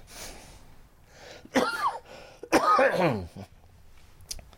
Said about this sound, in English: No, that's the coughing is an after effect from, I had 66 treatments of radiation and chemo, and it does damage to you.